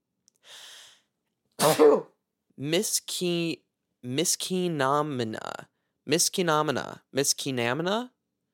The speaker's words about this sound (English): And also, I'm going to sneeze.